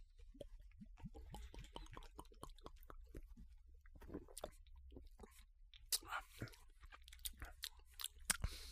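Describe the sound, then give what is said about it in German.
Quiet gulping as people take deep swallows of a malty drink during a taste test, a steady run of wet throat clicks and swallows with a few louder gulps near the end, and no talking. “Das war ein sehr tiefer Schluck.”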